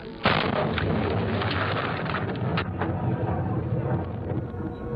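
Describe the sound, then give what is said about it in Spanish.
Steady heavy rain pours down continuously during an electrical thunderstorm with lightning, a deep low rumble of thunder running underneath. The dense hiss stays loud and constant throughout, and no voices are heard. “Tormenta eléctrica. Los truenos, rayos y relámpagos son fuerzas de la naturaleza experimentadas por todos nosotros.”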